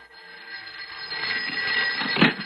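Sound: telephone ringing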